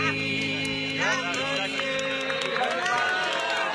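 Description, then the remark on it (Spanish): Sustained applause from a large crowd in St. Peter's Square in 2018 after a song, a dense steady wash of clapping with scattered cheers and shouts rising above it, continuing loudly for the whole few seconds. “Allí aplausos, ¿no? Esto fue en la Plaza San Pedro en el año 2018,”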